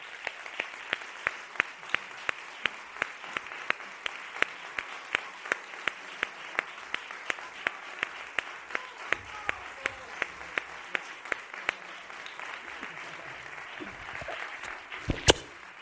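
Sustained audience applause welcoming a musical duo as guests, a dense wash of many hands clapping steadily throughout, with sharper individual claps standing out at a regular pace and a brief louder burst near the end.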